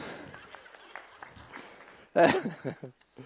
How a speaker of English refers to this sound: Ah, thank you. We better clap Mum as well.